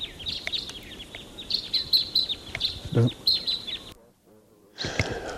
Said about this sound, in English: Okay, those crossbills, there were about four of them, took off and they went up higher on the ridge. And right now I hear a male in song.